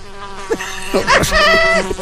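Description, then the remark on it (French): A voice mimics a goose with a few loud, nasal honks that bend and slide in pitch, one running straight into the next over a couple of seconds. “Je suis le meilleur pour imiter loi.”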